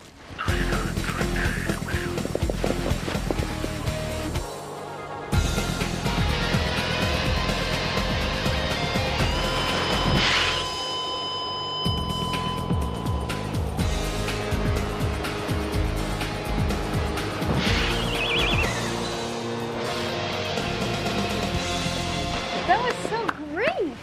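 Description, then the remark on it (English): An indoor skydiving wind tunnel roars loudly and steadily, a dense rushing drone that barely lets up, with voices and shifting tones mixed in over it. “It's very loud in the wind tunnel.”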